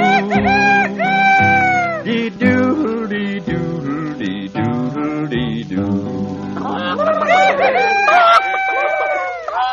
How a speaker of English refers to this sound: My little rooster goes cock-a-doodle-doo.